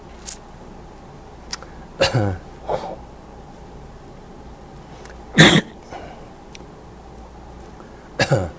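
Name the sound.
coughing and throat clearing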